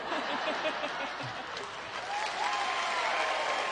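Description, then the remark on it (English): Steady, dense applause from an audience fills the whole stretch, loud and even, with a few faint chuckles and murmurs mixed into the clapping. “Yeah, you can applaud.”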